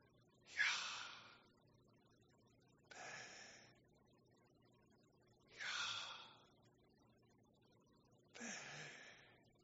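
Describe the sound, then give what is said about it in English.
Four slow, deliberate breaths, each a soft airy rush with a gentle swell, spaced about every two and a half seconds, quiet, a voice breathing so that it echoes the name of God, Yahweh. “And Greg Laurie at Creation struck me one year when he said, the name of God, Yahweh, sounds a lot like breathing, doesn't it?”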